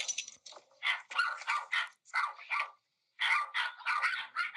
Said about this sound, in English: That's the dogs.